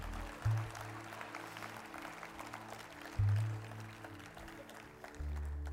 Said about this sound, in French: Et ceux qui l'ont vécu, voulez-vous applaudir à quelqu'un qui a besoin de l'entendre?